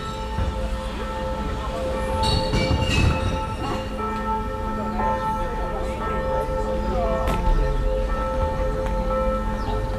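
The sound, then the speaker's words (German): Church bells ring steadily during a walk toward the Aare river, their sustained tones blending into a continuous resonant hum over a busy outdoor background and mixing with the reverberation of water bottles. “Wir machen jetzt eine Kurve und jetzt haben wir, wie abgemacht, die Kirchenglocken, die das Ganze noch begleiten.”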